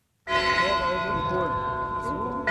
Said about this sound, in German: Die alte Bergwerksglocke, die Sivan Lacinian am Theatergebäude anbringen ließ, läutet das Festspiel ein.